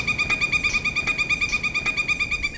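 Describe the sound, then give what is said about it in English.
A woodpecker sounds in the woods next to Disney's Magic Kingdom park at Walt Disney World in Florida, a steady high, pulsing call with a few faint knocks, fairly clear against a soft outdoor background with no one talking. “In the woods next to Disney's Magic Kingdom, Rachel Smith hears a woodpecker”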